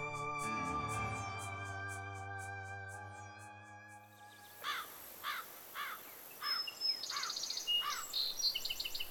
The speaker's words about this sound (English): Some birds sound so mournful, don't they? There's one out there now, crying. Gets into your head, that sound. Stays with you. Well, stays with me.